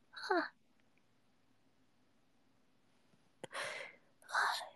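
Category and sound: human body sound, sneeze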